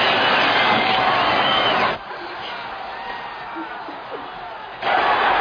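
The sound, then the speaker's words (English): A loud crowd at a heavyweight boxing title fight roars and cheers as reigning heavyweight champion Rocky Balboa is introduced, drops to a lower murmur for a few seconds, then surges back up to a full roar at the end. “Listen to this crowd.”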